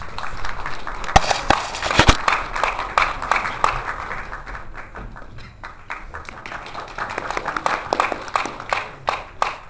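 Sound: warm audience applause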